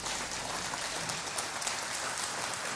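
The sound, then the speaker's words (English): An audience at a church service applauds for God's glory in a steady, dense wash of clapping that stays even and sustained throughout, with no voices rising above it. “You may be seated if you give God a great applause for His glory.”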